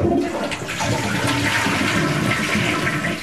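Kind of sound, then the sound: household object, toilet flushing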